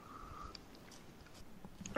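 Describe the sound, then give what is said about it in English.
After a couple of seconds of near silence, a sudden sharp slurp sounds as a person tastes oil, a quick, loud sip drawn in through the lips. “I'm going to have a little sip of it myself.”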